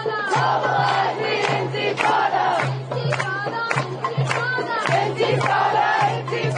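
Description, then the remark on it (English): A large anti-Israel protest crowd just outside the gates of Columbia, on Broadway and Amsterdam Avenue, chants loudly in rhythmic, repeated bursts of many voices shouting together, with a steady low drone underneath throughout. “There is, however, just outside the gates of Columbia, on Broadway and on Amsterdam Avenue, some much more virulent protests, much more anti-Israel, much more offensive.”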